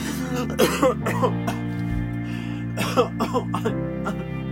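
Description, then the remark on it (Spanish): A series of muffled coughs from a woman who covers her mouth as she coughs, coming in short uneven bursts over a low steady background hum, sounding dampened as if stifled behind a hand. “Esta se descompuso ligeramente, necesitando cubrirse la boca al toser.”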